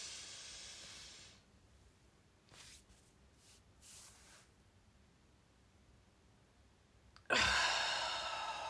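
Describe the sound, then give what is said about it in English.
A breathy exhale trails off into a quiet pause with a few faint soft breaths, then a loud, airy deep inhale rushes in and holds to the end. “Take another big deep breath in.”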